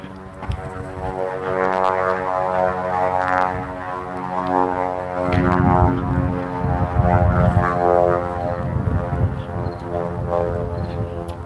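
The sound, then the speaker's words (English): A loud propeller airplane drones steadily overhead while someone walks back through a neighborhood on a breezy day, its rumbling engine tone swelling and throbbing for several seconds with a bit of wind noise, and no one speaking. “That's a loud plane.”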